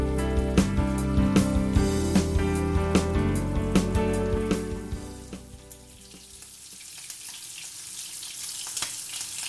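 Food sizzles and spits steadily in a frying pan on a hob as the food is turned and the heat turned down slightly, with sharp crackling pops scattered throughout and a brief dip in intensity partway before the sizzle builds again.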